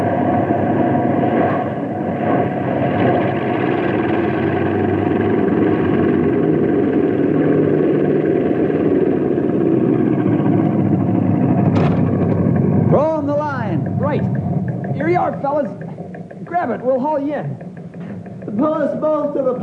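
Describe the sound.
A small plane's engine drones steadily and loudly while landing on a lake, its roar easing slightly toward the end as voices start talking over it.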